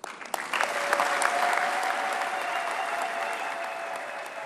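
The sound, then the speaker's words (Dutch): An audience bursts into sustained, warm applause after Pope Leo XIV's speech to the authorities in Cameroon, a dense steady clatter of many hands clapping that starts with a few claps and swells quickly, holding loud throughout. “De woorden van paus Leo XIV tot de autoriteiten in Kameroen, en u hoorde het, het werd zeer hartelijk onthaald.”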